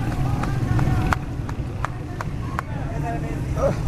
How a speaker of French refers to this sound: Nous recommençons à courir maintenant. Donc voilà, là, je crois que les policiers ont eu des renforts parce que les gens courent de plus en plus vite. Et moi, je fais de même.